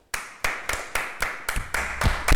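Applause at the end of a school radio interview with the local police of Ruballo, Cantabria: a steady run of about nine sharp hand claps in an even rhythm, growing slightly denser and louder toward the end, with no voices over it.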